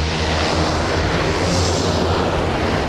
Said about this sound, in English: But by mid-morning, the sun had burned through the haze and he was able to set the King Air 300 down on the snow-packed runway.